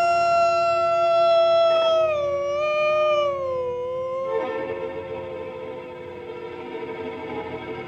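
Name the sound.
grey wolf howling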